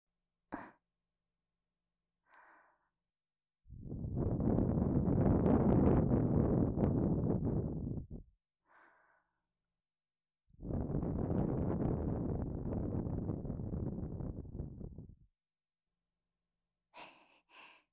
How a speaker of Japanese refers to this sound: お姉ちゃんの吐息、気持ちいい。もっとしてほしい。